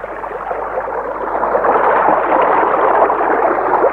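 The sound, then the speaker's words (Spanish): A steady, continuous rush of flowing water, fairly loud, swelling slightly after the first second and then holding even with no pauses. No voices are present. “Con el agua sucede lo mismo. ¿Ha escuchado el agua correr?”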